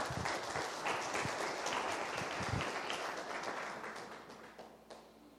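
An audience applauds steadily for several seconds at the close of a session, a dense wash of many hands clapping that slowly tapers off toward the end, with faint voices mixed in.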